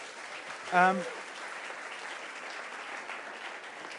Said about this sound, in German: Also Hammerjob, was ihr gemacht habt. Vielen Dank euch. Ich glaube, das ist ein Applaus wert.